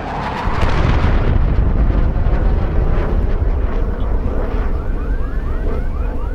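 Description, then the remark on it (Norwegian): A jet breaking the sound barrier high in the sky, hundreds or thousands of metres up, makes a sonic boom that hits suddenly as a powerful, deep blast affecting the surrounding air pressure, then rolls on as a loud, sustained rumble filling the air until the end, with no voices. “Og når sånne ting skjer, så blir det et ganske sånn kraftig sonisk smell da, som påvirker lufttrykket rundt omkring.”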